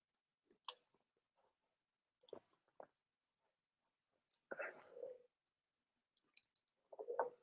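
A quiet sip from a drink, a brief slurping draw followed by small wet mouth clicks and soft swallowing noises, with near-silence between them.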